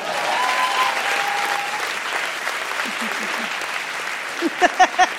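Steady audience applause for a 12-year-old girl sitting in the hall that evening, a dense wash of many clapping hands at an even level throughout, with a few louder, sharper claps and brief vocal sounds near the end.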